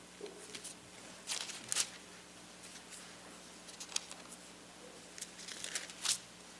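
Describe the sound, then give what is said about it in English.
Soft, papery rustles of Bible pages being turned as listeners look up Luke chapter 6, coming in scattered bursts from several spots with a faint steady hum beneath, and no one speaking. “And verse 46, I'll wait till the rustling of the pages stops.”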